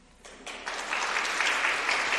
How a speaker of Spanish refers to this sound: Anuncio que, como oyen, era recibido con aplauso por parte de las hermanas.